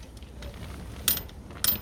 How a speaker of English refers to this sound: And you can hear the chain on top of it bouncing around. Very relaxing.